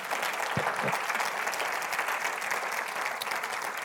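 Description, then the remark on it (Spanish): An audience at a Spanish-language church service claps steadily for several seconds after a prayer, applauding Christ: a dense, even wash of applause with no voices standing out, holding at a constant moderate loudness throughout. “¿Por qué no le dan un fuerte aplauso a Cristo, hermano?”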